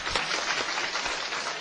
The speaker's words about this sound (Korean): 우리 교회 새로 등록이 되었습니다. 박수로 환영합시다.